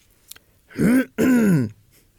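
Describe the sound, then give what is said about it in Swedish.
A person clears their throat twice in quick succession in a riding hall, two loud, rough, voiced bursts with a brief pause between them and nothing else around. “Och så tog jag tygen och sen hör jag hur någon harklar sig.”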